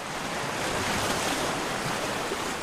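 Steady ocean surf washes onto a beach on the Hawaiian island of Oahu, a broad continuous roar of breaking waves with a soft hiss, constant throughout, with no voices.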